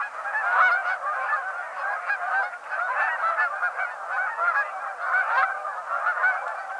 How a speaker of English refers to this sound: The clamorous sound of Canada geese is a vocalization often likened to the barking of hounds. At times, both males and females call in a responsive duet. The male gives a loud honk, alternating with the female's higher-pitched version of the same.